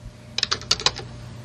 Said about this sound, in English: And I'm clicking to search, but it's not working. I'm clicking in the search field and typing. You can hear the typing. It is not doing anything.